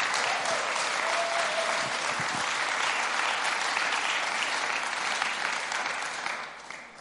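An audience claps steadily in a dense, sustained wash of applause that holds for several seconds before starting to fade at the end. No one speaks over it.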